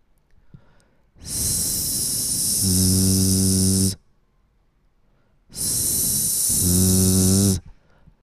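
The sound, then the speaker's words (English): A voice demonstrates a pronunciation exercise: holding the tongue in the 's' position and exhaling, it holds a loud, steady 's' hiss, then adds voice so it shifts into a buzzing 'z', repeated twice with a short silent pause between the two attempts. “Hold your tongue in the s position, continue exhaling, and then add your voice.”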